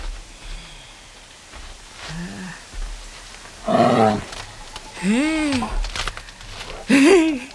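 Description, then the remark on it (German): A bear growls in a forest in a series of deep, drawn-out rumbles that swell and fade, growing louder toward the end, over a faint hissing outdoor background. “Hey. Bist du ein Bär? Willst du ins Camp? Ein Bär.”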